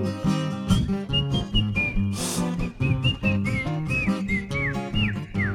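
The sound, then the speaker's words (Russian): A whistled tune rises and slides through short melodic phrases over a steady, fairly loud instrumental backing, with no voices in between. “Ёжик резиновый шел и насвистывал дырочки в правом боку.”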